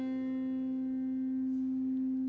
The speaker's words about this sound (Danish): Det er så cembaloet, og så har vi orglet hernede. Og det der så er, det er, at man så skubber manualet ind. Så har man pludselig en tone, som både har cembalo og orgel lyd i sig.